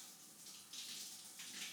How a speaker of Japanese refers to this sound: じゃあ、泡流しちゃおう。泡残ってるとこなさそう？